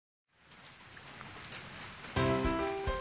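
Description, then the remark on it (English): Steady rain hisses and patters throughout, moderately loud, with a sudden louder tonal, ringing burst breaking in near the end. “It's raining.”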